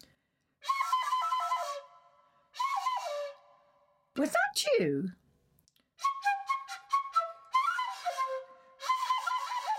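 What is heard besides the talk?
birds singing in trees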